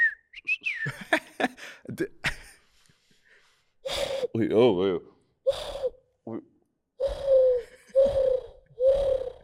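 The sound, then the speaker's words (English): A person imitates a bird call with a series of whistled chirps and warbling trills, fairly loud, with short breathy gasps and clicks at the start and pauses between the whistles. “I love doing like a bird sound like...”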